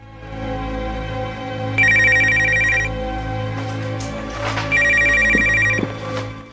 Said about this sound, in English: He puts the note down and answers the phone.